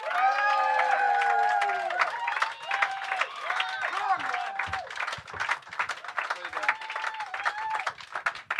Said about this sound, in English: Please put your hands together for the main man, Mr. ….